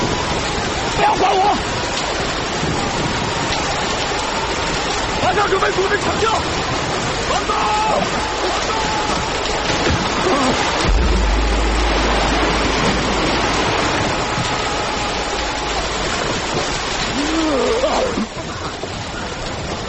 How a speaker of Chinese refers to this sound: 台风正猛，海上风浪一浪高过一浪，风声、水声、雷声交织在一起，十分骇人。